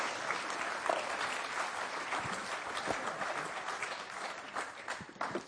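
An audience applauds steadily, a dense wash of many hands clapping at a fairly even level throughout, with a few sharper individual claps standing out and no voices heard.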